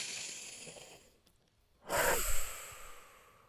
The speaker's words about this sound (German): Und dann atmet nochmal tief ein und aus.